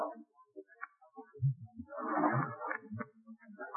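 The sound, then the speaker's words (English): Slow, uneven footsteps with a dragging scrape between them, approaching a door: several low, dull thuds mixed with a rough shuffling sound, heard alone without any talking. “That dreadful sound. Strange, dragging footsteps. The footsteps are approaching this door.”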